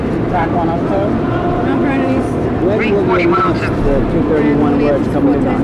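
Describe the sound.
Steady, loud crowd ambience of the busy concourse at Grand Central Station, with many overlapping voices murmuring over a constant rumble of background noise and movement.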